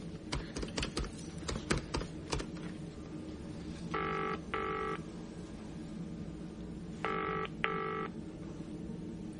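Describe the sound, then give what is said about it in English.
A telephone is dialed with a run of sharp clicks, starting with 9 for an outside line, calling the firm FN, then rings at the other end in two double-burst trills separated by a pause, heard alone with no talking. “Can I use your phone? Listen in. 9 for an outside line.”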